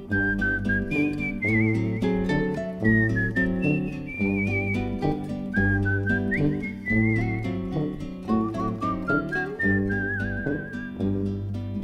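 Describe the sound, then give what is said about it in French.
A bright, wavering whistled melody runs clearly throughout, carried over a steady rhythmic musical accompaniment with a bouncing bass, fairly loud, with no voices. “Pendant que je somnole à jouer les rossignols, sifflotant mes refrains pour rien.”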